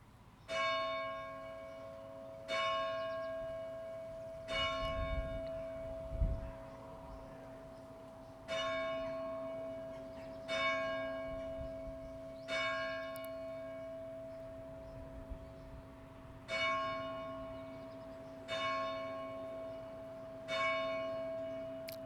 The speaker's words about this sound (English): So, for instance, take the sound of the bell. And travel. Where's the sound? Not with the bell.